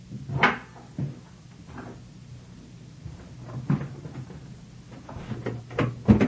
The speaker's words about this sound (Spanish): María Claudia llega a la pieza 23 y abre la puerta.